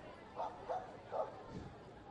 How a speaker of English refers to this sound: Here's some barking down below.